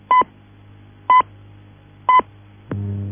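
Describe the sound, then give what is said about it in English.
Three short, evenly spaced high beeps a second apart, then a fourth, slightly lower tone that holds on steadily: speaking-clock time pips, the fourth stroke marking 12 o'clock and 10 seconds, with no voice over them. “At the fourth stroke, it will be 12 o'clock and 10 seconds.”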